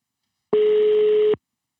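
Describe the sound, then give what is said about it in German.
A single ringback tone on an outgoing phone call that goes unanswered: one steady, buzzy mid-pitched beep lasting under a second, heard alone with no talking. “Ja, es klingelt. Es klingelt immer.”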